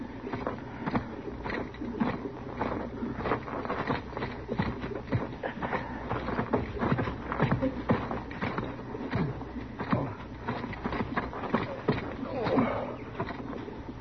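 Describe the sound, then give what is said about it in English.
Horses' hooves clip-clop in a busy, uneven clatter that runs steadily throughout, moderately loud, with a low rumble underneath. “Chester, you go bring the horses up.”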